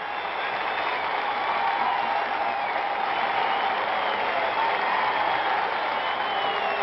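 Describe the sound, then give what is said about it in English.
A sellout arena crowd at the new Madison Square Garden gives a standing ovation as Knicks captain Willis Reed comes out: a dense, unbroken wall of clapping and cheering that holds at a steady, loud level for the whole stretch, with no voices standing out. “It's a standing ovation at the new Madison Square Garden.”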